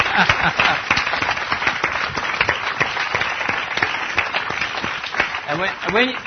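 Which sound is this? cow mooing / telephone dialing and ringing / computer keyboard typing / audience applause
audience applause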